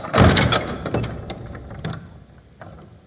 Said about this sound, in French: Voici une porte de bois. Poussez-la et continuez.